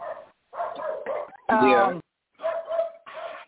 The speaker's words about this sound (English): I got to go walk outside and go smack my dogs because they're attacking the neighbor. He's walking by.